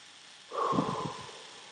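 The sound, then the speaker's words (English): A single strong, breathy exhale, done as a breathing exercise to relieve stress and tension, bursts out, loud and rushing for under a second, then trails off into a softer hiss. No one speaks. “Pretend you're blowing out birthday candles. That kind of full exhale relieves stress and tension, releases pent-up anger, and allows you to breathe in more fully afterward.”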